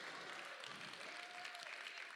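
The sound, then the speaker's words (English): Steady, dense applause from an audience, a continuous wash of many hands clapping at an even level throughout, with no voices standing out. “I know you're clapping for him.”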